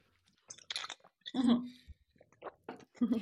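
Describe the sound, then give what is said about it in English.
Sipping and swallowing sounds from people drinking, a few short wet slurps and mouth noises with a brief hummed murmur in between, quiet and intimate. “Yeah, let's take a sip.”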